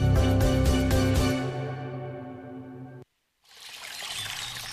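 Water from the Montseny Natural Park, presented for Font Agudes water, pours and trickles in a steady stream. It comes in after a sustained tonal, musical sound fades out and a brief moment of silence passes.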